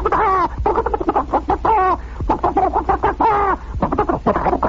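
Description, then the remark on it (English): A voice imitates turkeys gobbling, producing a rapid run of warbling, throaty bursts that repeat several times without pause, loud. “And I hear these turkeys all go...”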